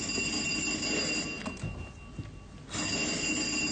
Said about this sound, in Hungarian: Telefon.